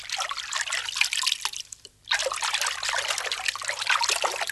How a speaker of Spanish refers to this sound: ¿No oyes la música del agua?